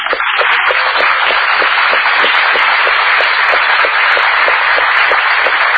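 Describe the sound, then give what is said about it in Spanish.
A crowd applauds to greet Tute, author of a book, a dense wash of many hands clapping at a loud, even level throughout with no voices. “Aplaudamos.”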